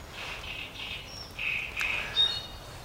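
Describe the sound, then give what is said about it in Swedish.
A nocturnal songbird sings through the night, a fast, repetitive sequence of bright whistled and buzzy phrases, repeated in quick bursts with a few sharper notes, over faint background hiss. “Med en repertoar och upprepningsiver som får den att tänka faktiskt på taltrasten.”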